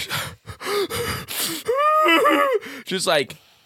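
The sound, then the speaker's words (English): A voice acts out heavy, panicked breathing of someone about to faint while pushing a stroller: a run of ragged gasps and strained, wavering exhalations, loud, rising into a few shaky, whimpering breaths at the end. “Like heavy breathing, hand under shoulder, you know, pushing the stroller, about to faint.”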